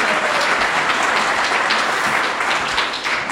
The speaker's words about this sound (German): Ja, das ist ja dein Applaus,